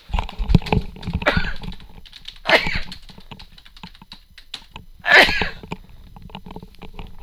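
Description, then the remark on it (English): Two sharp sneezes burst out a few seconds apart, loud, over a busy backdrop of clicking and tapping of typing on a keyboard. “Gesundheit.”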